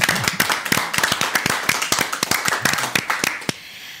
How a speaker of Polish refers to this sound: również wielkie brawa.